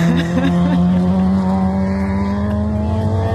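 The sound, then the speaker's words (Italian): A small Autobianchi A112 Abarth rally car pulls away from the start, its engine droning loud and steady with a rasping, harmonic buzz for a few seconds, with no talking. “abbiamo sentito per chi è in radio e visto chi è in diretta anche la partenza di Droandi”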